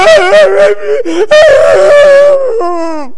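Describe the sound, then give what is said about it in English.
A man's voice mimics loud, exaggerated wailing and sobbing, imitating a man crying his eyes out over a scratch on his car door, with wavering high-pitched cries broken by short catches of breath, continuing for about three seconds. “And there he was, crying his eyes out over that scratch.”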